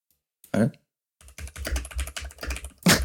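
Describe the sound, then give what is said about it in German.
Rapid clattering keystrokes on a computer keyboard as someone types a Google search for how much a blue whale weighs, a dense run of sharp clicks after a couple of isolated louder taps, fairly loud with no voices. “Es ist so geil, dieses Getippe zu hören.”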